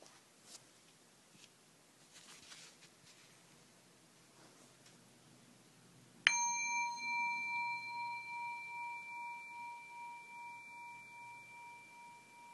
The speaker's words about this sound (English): I will start by ringing a bowl, followed by beginning the visualization.